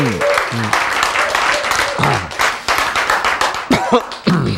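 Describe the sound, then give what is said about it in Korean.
An audience at a lecture about cancer bursts into enthusiastic applause, dense rapid clapping with a few voices calling out and chattering over the clapping throughout. “자, 여러분 이렇게 보면 박수를 아주 아주 좋아하시고 기뻐하시고 박수를 치시는 분들도 있고 그저 덤덤하신 분들도 있고 그래요.”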